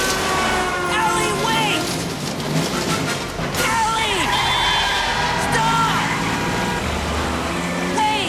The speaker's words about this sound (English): Eddie's car drives off down the highway.